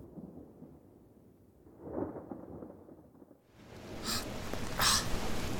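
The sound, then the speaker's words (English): A low, rolling rumble of thunder from an approaching storm swells and fades, then a steady hiss of wind and rain rises, broken by two sharp, crackling bursts near the end. No one speaks. “Looks like another storm's coming.”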